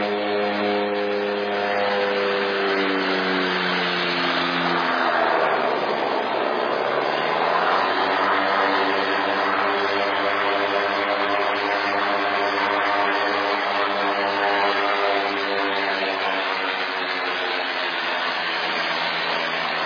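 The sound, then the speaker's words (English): A steady, droning engine for the whole stretch, its harmonic pitch sliding down and back up midway as an aeroplane slows and turns around on a mission airstrip at Tekken in West Sepik province; like a small propeller plane taxiing on the ground. “Look for the green building as the aeroplane turns around.”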